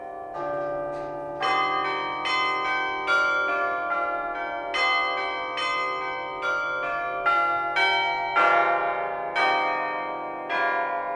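Three church bells ring out noon together in a steady, overlapping rhythm, each loud strike ringing out and blending into the next with no voices present.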